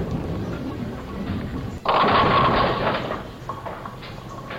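A low rolling rumble of a bowling ball gives way to a sudden loud, clattering crash as it knocks down 8 pins, leaving 2 standing; the rattle lasts about a second before fading into a softer rumble.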